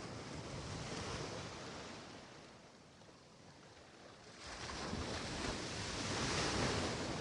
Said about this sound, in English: And as the waves wash over the unspoiled sand towards you, the vibrant water touches your toes before receding.